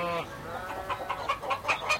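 Several hens on a farm, mostly Coucou de Rennes kept for eggs, cluck in a quick, uneven series of short bursts, moderately loud, with overlapping calls and no talking.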